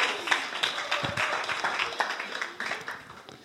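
A short burst of audience applause, many hands clapping in a dense, steady patter with scattered sharper claps, moderately loud and with no one speaking over it.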